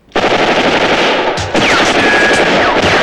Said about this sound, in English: Vulcan falls in the hail of machine gun bullets.